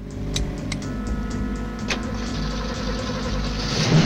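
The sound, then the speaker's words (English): A Mustang's engine rumbles at a steady idle, fairly loud, with a few sharp clicks early on as the ignition is turned on at a car wash lot, before the revs swell slightly toward the end. “As Frank goes to turn on the ignition, he catches sight of the car.”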